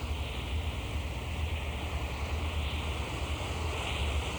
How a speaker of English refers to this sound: Oh, and the sea. The sea crimson sometimes like fire.